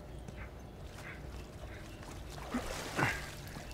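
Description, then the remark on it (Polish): Water sloshes and laps in an echoing tunnel, a steady wash of noise broken by a couple of louder splashes near the end. No one speaks. “Nic tu nie ma, woda tylko tu jest.”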